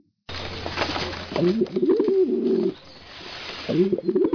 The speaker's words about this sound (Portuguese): Olha, tem dois ali. Ah, não, com esses pombos, esses dois safados não gostam muito de perguntas, e um dos pombos só fala a verdade, o outro só fala mentira.